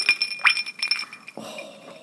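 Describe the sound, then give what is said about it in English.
Ice cubes rattle and clink against the sides of a whiskey glass holding a whisky drink in a quick cluster of bright taps. A softer, slightly gloopy settling sound follows as the cubes come to rest, with an air bubble under an ice cube. “I'm just going to rattle it in there.”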